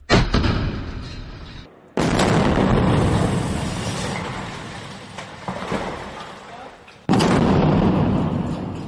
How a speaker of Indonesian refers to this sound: Suara ledakan yang baru saja Anda dengar adalah suara serangan rudal yang diluncurkan tentara Israel ke bangunan apartemen penduduk di Gaza.